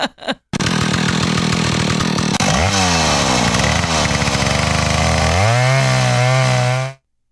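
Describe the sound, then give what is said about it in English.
A woman's voice imitates a chainsaw, producing a loud, continuous buzzing drone that starts after a brief pause, revs up and down in pitch, then holds steady before cutting off abruptly. “She does sound like the idol of a chainsaw. Yeah, and then that was a chainsaw.”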